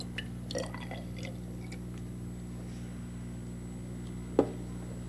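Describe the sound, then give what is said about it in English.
Water is poured in a thin trickle from a beaker into a narrow glass test tube, with faint splashy bursts early on, then a single small clink, all over a steady low electrical hum. “I have water in this beaker, and I'm going to pour it into this test tube.”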